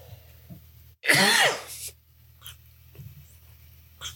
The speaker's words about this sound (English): I have to cough. Hang on.